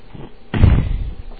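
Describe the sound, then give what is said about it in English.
A door slams shut with a sudden heavy thud, followed by a brief low rumble as the impact dies away. It is a single, fairly loud hit. “Well, excuse me, door.”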